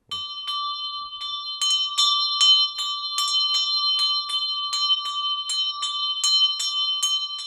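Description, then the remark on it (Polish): A small collectible hand bell, bought at a fair in Gdańsk, rings steadily, its clapper striking over and over in a quick, slightly uneven rhythm, each bright metallic ding layering over a sustained shimmering tone. Fairly loud, no talking. “dźwiękowo ten jest bardzo ładny, on akurat na jarmarku kupiony właśnie w Gdańsku. Też dużo dzwonów tu jest z jarmarku.”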